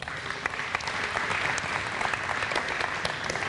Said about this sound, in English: Do we clap? Let's clap, absolutely.